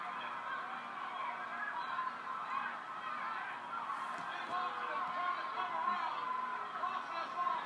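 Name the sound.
arena crowd booing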